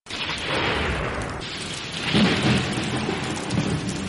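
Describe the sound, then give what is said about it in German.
Steady heavy rain hisses throughout while low thunder rumbles underneath, swelling into a deeper roll midway. A continuous storm with lightning and no voices. “Es regnet, es blitzt und donnert.”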